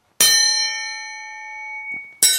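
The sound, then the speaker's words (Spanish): Two sharp metallic clangs from iron scissor blades struck together, the first leaving a long, bright ringing tone that slowly fades before the second strike cuts in. No one speaks. “Están hechas en hierro. De acero. Además, estas tijeras es hembra y macho.”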